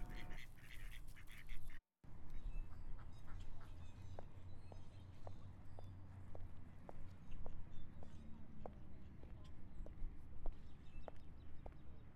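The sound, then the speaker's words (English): Ducks quack and waddle close by over a steady outdoor hum, with a regular series of soft tapping steps running through the whole stretch. “There are the ducks. Some of them are waddling near me.”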